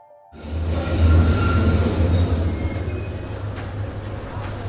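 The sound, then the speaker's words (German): A train rumbles into a station where it terminates, with a heavy low drone and high metallic wheel squeals, growing loud then easing as it slows to a stop. “Alles aussteigen. Dieser Zug endet hier.”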